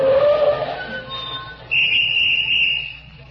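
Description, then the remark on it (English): Street traffic rumbles steadily, then a car brakes with a loud, sustained high-pitched squeal lasting over a second before fading back into the traffic noise. “Where does all this traffic come from?”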